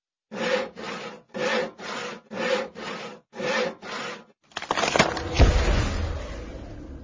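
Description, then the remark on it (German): Eight steady back-and-forth saw strokes rasp through a pumpkin, then a cracking, splitting burst as it breaks open with a low crunching rumble. Fairly loud, no voices. “»Schnell, wir öffnen einen anderen Kürbis«, rief Nolbu und griff zur Säge.”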